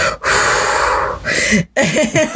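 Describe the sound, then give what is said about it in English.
A voice imitates a drunk person's heavy breathing: loud, breathy rasping inhales and exhales, ending in a few short voiced, snorting grunts. “Because there's always that breathing, the drunk breathing.”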